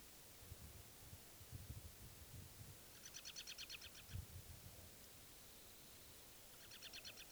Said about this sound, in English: That was the bird.